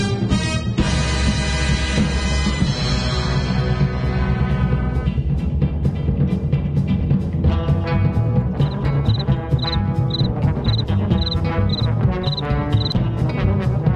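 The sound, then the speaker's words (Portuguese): A cricket in the studio of the Ronda Central programme chirps in a steady, evenly spaced series of short, high trills over loud, busy music, joining partway through and continuing to the end. “Eu já tava era dormindo, tem até grilo aqui no estúdio.”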